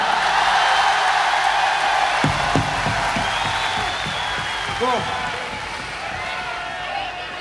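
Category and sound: crowd, concert audience applause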